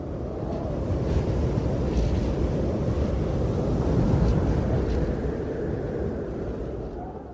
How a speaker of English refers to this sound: A great gust of wind smashes your legs, unprotected by the great bodies of the mammoths.